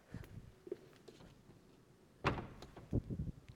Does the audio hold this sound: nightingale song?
no